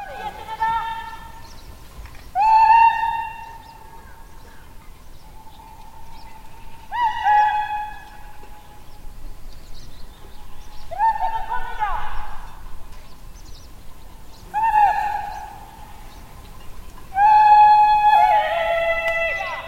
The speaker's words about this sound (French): Ce son, par exemple, est un appel pour une vache qui s'est perdue et on entend la réponse d'une autre bergère